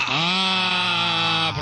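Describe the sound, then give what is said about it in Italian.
A person imitates a flock of sheep with one long, loud, wavering bleat held for over a second, alone, ending abruptly. “Professore, non bastavano le pecore singole, adesso a branchi ce le porta.”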